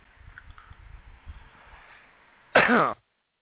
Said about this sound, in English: And let me clear my throat.